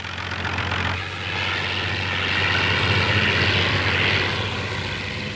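A propeller airplane, the party plane flown by Hess, drones overhead at low altitude, hedge-hopping over left-wing rallies to scatter them; its steady engine roar swells louder through the middle and eases slightly at the end, with no voices.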